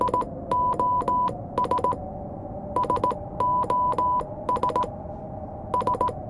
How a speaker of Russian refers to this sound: Это же сигнал СОС